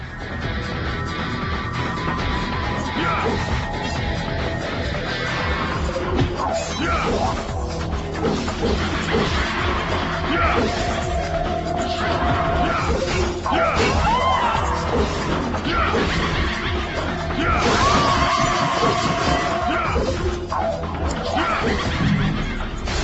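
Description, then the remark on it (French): Sound effects from a PlayStation 2 video game play over steady background music: repeated loud smashes and thwacks, interspersed with harsh death cries. No one speaks throughout. “Je vais un peu la fermer quelques secondes pour vous profiter de la musique et des bruitages, je les trouve vraiment excellents.”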